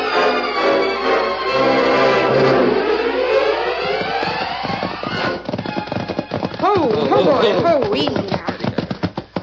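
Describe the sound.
Horse hooves clip-clop in a quick, steady rhythm through the second half, fairly loud, layered under swelling music and a voice.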